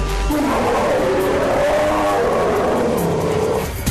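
A loud bear roar rumbles for about four seconds, a deep, rough growl whose pitch swells and sags before cutting off, with no talking.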